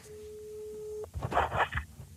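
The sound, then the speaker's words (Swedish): A single steady telephone ringing tone on an outgoing call sounds for about a second, then cuts off into a brief burst of clattery, muffled noise as the line is picked up. “Ringer”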